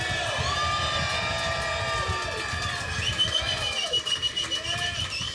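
crowd, audience applause and cheering

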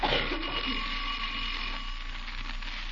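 household object, doorbell ringing

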